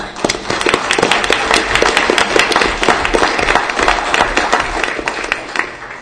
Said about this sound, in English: And thank you again for your service. And join me in a round of applause.